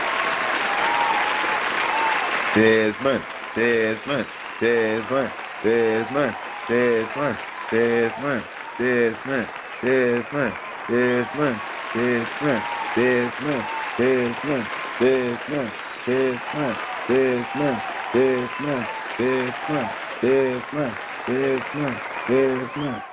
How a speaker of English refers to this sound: So we want to give a round of applause for Dez Bryant. What he did.